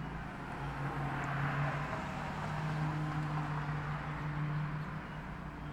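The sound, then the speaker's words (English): A car passes by, a steady wash of road noise with a low engine hum that swells slightly and then fades. No voices. “Sound of a car going by.”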